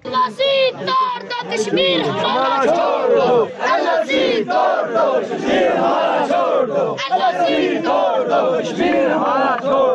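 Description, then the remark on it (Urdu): A large crowd of marchers supporting the Liberation Front chants slogans for freedom and for the removal of barriers in Pakistan-administered Kashmir, in loud, rhythmic unison, many voices rising and falling together in repeated shouted phrases that fill the whole ten seconds without pause. “مارچ میں شامل liberation front کے حامی آزادی اور رکاوٹیں ہٹانے کے حق میں نعرے لگاتے رہے.”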